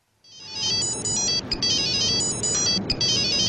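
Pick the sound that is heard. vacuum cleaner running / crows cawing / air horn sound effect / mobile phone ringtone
mobile phone ringtone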